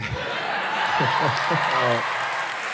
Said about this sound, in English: No. No. Don't. Don't applaud. I mean, it encourages him. The biggest thing about like them applauding right now is that you have to have heard that joke.